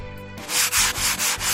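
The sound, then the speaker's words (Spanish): Ice is scraped off a car windshield in Madrid early in the morning, after temperatures around minus 2°C, in about five quick, rhythmic strokes, each a harsh, gritty rasp, fairly loud, following a brief low hum at the start. No one speaks. “Seguro que más de uno ha tenido que rascar la luna de su coche a primera hora.”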